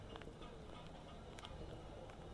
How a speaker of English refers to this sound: Blimey, you can hear the rain.